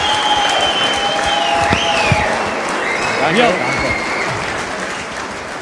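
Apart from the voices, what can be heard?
applause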